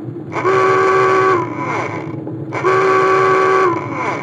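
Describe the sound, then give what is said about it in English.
A submarine dive alarm, sounded on order just before the submarine dives, sounds twice, each a loud, buzzing, horn-like blast of about a second with a slight downward slide at its end, over a steady low mechanical rumble. “Sound the alarm.”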